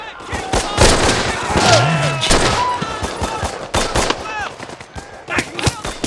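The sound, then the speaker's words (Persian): Loud, rapid gunfire rattles throughout in irregular bursts during a firefight, sharp shots overlapping densely, with a brief voice shouting orders to shoot rising through the din partway in. “زود باشین بزنینشون، برشون شلیک کنین، امونشون ندین.”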